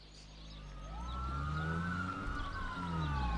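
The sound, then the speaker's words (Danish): Wailing police sirens from five patrol cars in a car chase after a dark grey Volkswagen Golf on a country road west of Horsens, Denmark, on a summer afternoon, 12 July 2016, rise and fall in long, overlapping tones, steady and fairly loud over a low engine rumble, with no one speaking. “Men den landlige eftermiddagsidyl blev brudt af hylende politisirener fra 5 patruljebiler på landevejen lidt vest for Horsens.”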